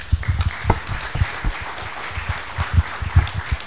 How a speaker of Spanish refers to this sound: La verdad, un grupo de gente de muchísimo trabajo, de mucho empuje. Un aplauso para toda esa gente.